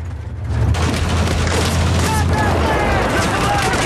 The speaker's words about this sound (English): Gunfire suddenly rips into the dirt bank just below the road.